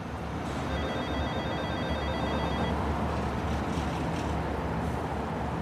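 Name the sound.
telephone ringing tone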